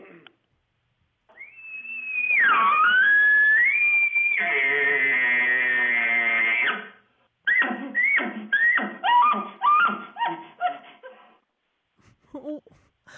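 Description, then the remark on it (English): A person imitates a bull elk bugle: a high, sustained whistling squeal, then a raspy, buzzing groan, followed by a rapid series of short, yelping chuckles. The call is loud, with no talking over it. “can I hear your elk call? Sure. Here, I'll do one.”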